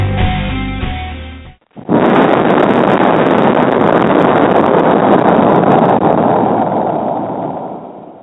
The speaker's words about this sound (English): Oh, I gotta love the explosion right there at the end. That's always good.